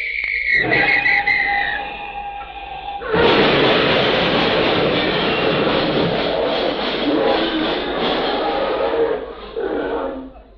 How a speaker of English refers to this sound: Look at the traffic. You'd never know there was a shortage of gas and rubber.